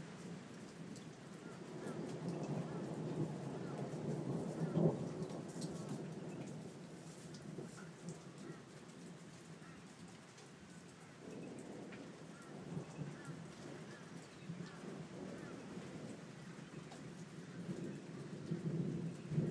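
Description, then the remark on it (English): Low, distant thunder rumbles on and off over a steady, continuous hiss of rain mixed with small bits of hail, swelling a little at moments without any sharp crack. “Thunder off in the distance, not sure if... Oh yeah, here we go, here's a bit more.”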